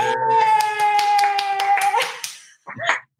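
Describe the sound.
Rhythmic clapping beats steadily over a sustained, humming musical tone for about two seconds, then fades as a voice briefly speaks.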